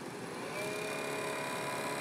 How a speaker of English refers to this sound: Yeah, well, this thing is loud. The droning of the condenser fan matches the most annoying vending machine at the bus stop, and it will run the whole time. And then the vacuum pump starts up and it just adds to the racket.